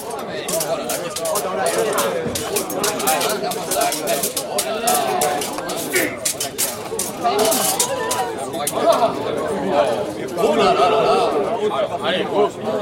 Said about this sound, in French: Rien de tel pour faire s'attrouper les badauds.